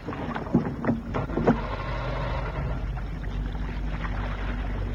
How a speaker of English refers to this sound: Aye, aye, skipper. I'll start the outboard motor.